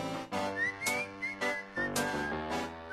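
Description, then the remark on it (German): People whistle along to a loud, punchy music track, a thin, high whistled melody gliding on top, the tune rising and falling in short phrases with the beat. “Könnt mitpfeifen, Friesen.”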